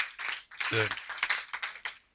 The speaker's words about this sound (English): Put your hands together for the Lord once again.